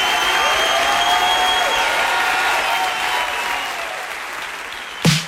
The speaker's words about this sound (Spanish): Aparte el aplauso.